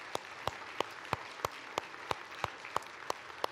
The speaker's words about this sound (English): So if you're a deacon or a deaconess, would you please stand up for just a moment so we can tell you thank you for all that you do. All the deacons and deaconesses, let's give them a round of applause.